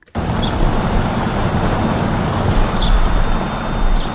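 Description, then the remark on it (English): A few brief, high bird chirps come at scattered moments in spring over a loud, steady mechanical hum from off-season construction projects in Harper's Ferry that fills the whole clip. No one speaks. “Birds are chirping beneath the hum of off-season construction projects in Harper's Ferry.”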